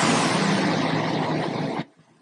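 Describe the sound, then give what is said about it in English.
A car pulls away, its loud, steady engine roar and road noise filling nearly two seconds before cutting off sharply into quiet. “It's a car just leaving.”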